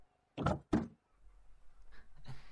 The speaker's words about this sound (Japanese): ドアを開けてやってくれないか。